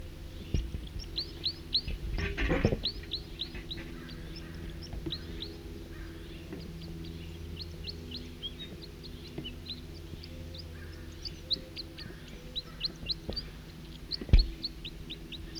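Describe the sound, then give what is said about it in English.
Two male birds sing with rapid, repeated high chirping notes that overlap throughout, over a steady low hum, with a couple of brief knocks along the way. “Two male in song.”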